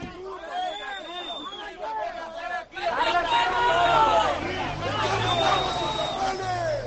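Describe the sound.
A crowd of Levante football fans outside Levante's stadium, many voices shouting and chanting over one another, such as "¡Mercenarios!", as two team buses arrive from Villarreal; the din swells abruptly partway through and stays loud, with a low rumble underneath.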